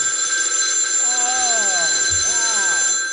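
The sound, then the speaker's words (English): A telephone rings with a steady, high electronic tone that holds unbroken for the whole few seconds, while voices murmur faintly underneath. “That hasn't been ringing.”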